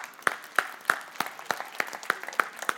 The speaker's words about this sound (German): Applaus, Applaus, Applaus, Applaus, Applaus!